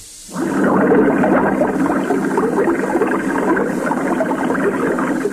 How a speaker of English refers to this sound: Well, isn't that a current flow of water? That's what it is, yes.